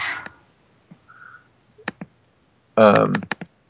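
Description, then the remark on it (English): Scattered computer keyboard clicks as someone types an online search at an uneven pace, a handful of sharp keystrokes with pauses between them, while a voice briefly speaks partway through. “I can hear it clicking away. Some serious Googling is going on somewhere.”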